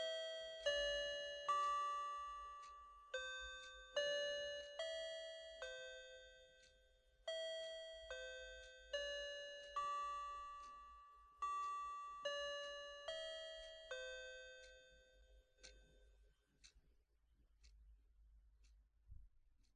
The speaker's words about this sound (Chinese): 钟声响了，夜深了，该睡了呀。